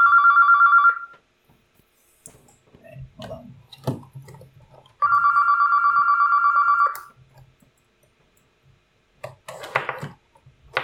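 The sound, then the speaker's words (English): A telephone rings twice, each ring a steady trilling buzz lasting about a second or two, separated by a pause filled with faint rustling and knocks, then soft shuffling noises follow. “Okay, hold on. I unplugged my phone”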